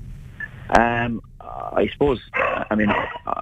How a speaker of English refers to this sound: Sorry, my dog going mental in the background here. You're okay. He's all very excited.